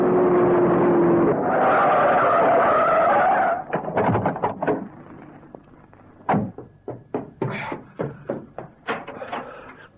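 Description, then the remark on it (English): A car races from a hospital to a theater's stage door with a loud, sustained squeal of skidding tires over a roaring engine, followed by a rapid series of sharp knocks and thumps. “Genius is boiling rubber getting from the hospital to the stage door of the theater”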